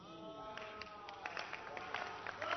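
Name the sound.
audience clapping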